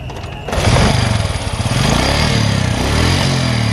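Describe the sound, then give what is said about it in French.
A small scooter engine kicks in abruptly and keeps running loud, its buzzing drone wavering slightly in pitch as it revs, with no voices; Yamel Yago, a founder of the M21 movement, is riding the scooter to a meeting of the movement. “Ce jour-là, l'un des fondateurs, Yamel Yago, se rend en scooter à une réunion du mouvement et la politique s'invite en route.”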